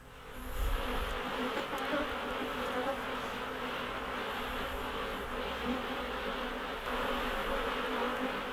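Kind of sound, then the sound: insect, buzzing of bees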